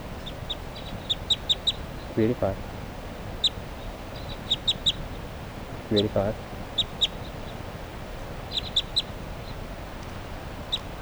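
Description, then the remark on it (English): Several birds, the flock mates of a subadult female bird numbered 387, call repeatedly: sharp, high chirps in quick clusters throughout, with a couple of lower, harsher squawking bursts mixed in, over a steady background hiss. “And meanwhile, her flock mates are calling here.”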